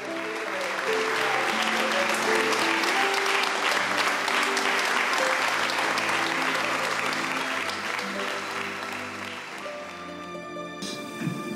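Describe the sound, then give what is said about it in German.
Loud, sustained applause from a large crowd welcoming Father Werenfried, a dense roar of clapping that holds steady for about ten seconds, with faint tonal music underneath, before tapering off at the end. “Herzlicher, tosender Applaus empfing ihn.”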